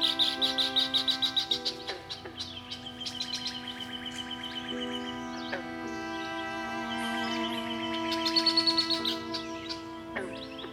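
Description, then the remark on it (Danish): Rapid bird trills and chirps ring out over sustained, layered musical tones in a composed piece that incorporates nature sounds, with a bright burst of birdsong at the start and another near the end, blending into a calm instrumental bed. “har Eske arbejdet med at inkorporere naturens lyde af vind, hav, regn, torden og fugle i musikstykkerne”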